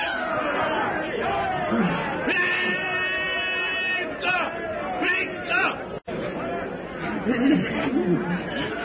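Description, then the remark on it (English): A long, piercing yell with a strong, steady pitch from a crazed bearer brandishing a heavy spear as he charges a group gathered around a campfire in the Gregory camp rises above a frantic babble of shouting voices, then gives way to more overlapping cries and commotion. “Tarzan's companions stand petrified as the crazed black bearer, brandishing a heavy spear, leaps toward the man with a blood-curdling yell.”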